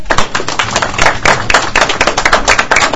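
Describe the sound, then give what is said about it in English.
A group of people at a meeting claps steadily for a few seconds for the newly announced election winner, dense overlapping hand claps with no one speaking. “Let's give her a hand.”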